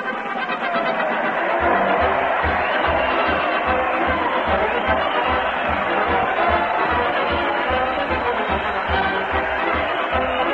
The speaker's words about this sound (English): Listen to that crowd cheer Fred Allen as he leads his parade to the old Town Hall. Fred's leading the band with the billiard cue, and America's Eight Balls, the mighty Allenard players, are rolling along behind. Let's join the merry crowd.